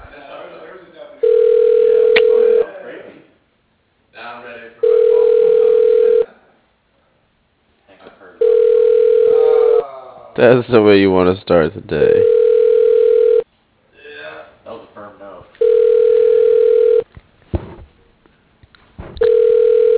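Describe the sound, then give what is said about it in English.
A telephone ringback tone on a call repeats in steady bursts of about one and a half seconds with short gaps, continuing throughout while a man talks in between and over the rings. “I'm about to get my second continuous ringing for 2 minutes straight.”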